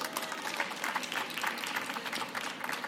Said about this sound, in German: Sehr gut, wunderbar. Ein Applaus für unsere Coaches.